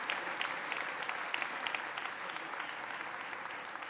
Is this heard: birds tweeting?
no